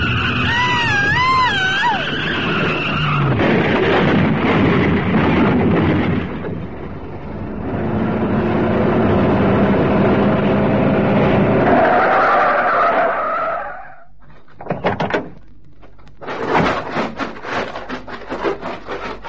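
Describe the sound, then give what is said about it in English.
Tires squeal in wavering shrieks as a joyriding car goes out of control and skids for a long stretch, engine and road noise roaring, then it cuts out into a few sharp crunching, clattering impacts as the car crashes. “I can't hold it! I can't hold it! I'm losing control!”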